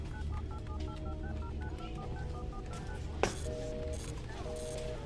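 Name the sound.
telephone keypad dialing tones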